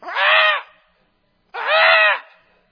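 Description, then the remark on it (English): Two loud, harsh bird squawks, each lasting about half a second, separated by a brief silence. They sound raspy, with no talking. “And it's them trying to squawk and criticize and fault find.”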